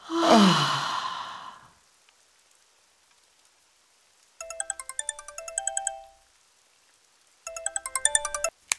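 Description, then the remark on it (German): A long breathy sigh fades out, then after a pause a phone rings with a bright, melodic electronic ringtone, sounding in two rapid tinkling bursts separated by silence. “Um ein Haar hätte er das Klingeln noch erlebt.”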